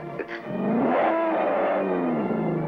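vehicle, boat engine running

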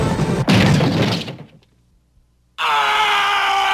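sound effect, explosion sound effect

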